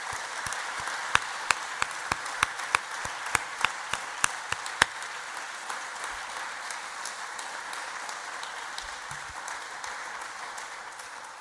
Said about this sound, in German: Und dafür, denke ich, hast du einen riesen Applaus verdient.